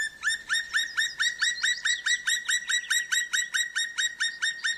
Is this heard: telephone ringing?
no